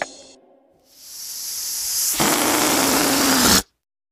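A steady, airy hiss of air escaping a balloon builds gradually, then turns harsher and louder with a squeaky edge before cutting off abruptly. No one speaks.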